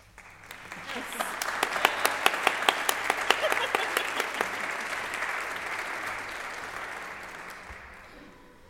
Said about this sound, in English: Yes, a very well-deserved round of applause.